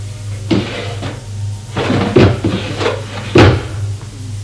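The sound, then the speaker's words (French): A drawer being opened and handled: a series of wooden knocks and short scraping clunks, spaced irregularly over a steady low hum, with no one speaking. “Il y a aussi dans les tiroirs”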